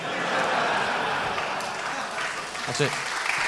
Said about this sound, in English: That's it. I'm done. That's it. Why are you clapping? I'm done.